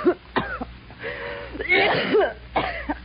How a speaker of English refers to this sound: You got a bad cough. You need some sun.